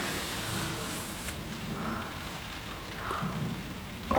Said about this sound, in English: What's that noise? There's a storm. I'm sure it will be over soon.